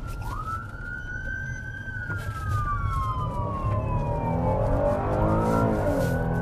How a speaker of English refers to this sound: Racing to the scene with lights and sirens in this city of 525,000.